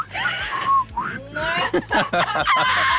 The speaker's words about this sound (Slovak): Vieš, že to je sexy, keď vie chlap pískať? Vieš pískať?